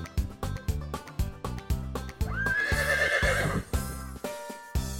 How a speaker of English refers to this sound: Who makes the sound? A horse! It's Johnny the horse! Look, a horse! What a friendly horse!